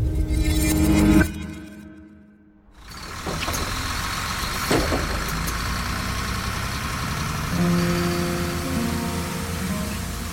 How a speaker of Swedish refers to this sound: Det har blivit natt i Missouri i USA. Det är mörkt ute, kallt. På Greyhound-bussen som precis har lämnat staden Joplin sitter